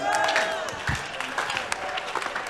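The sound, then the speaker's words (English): An audience claps for the Lord steadily in a dense, continuous patter, with raised voices shouting and cheering over the applause throughout. “Give the Lord a better clap and a shout.”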